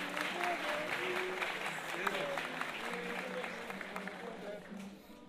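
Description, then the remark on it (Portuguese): Sustained applause from an audience at a samba performance, dense and steady clapping for several seconds, with faint crowd murmur and indistinct voices underneath, tapering slightly at the end. “Uma salva de palmas aí”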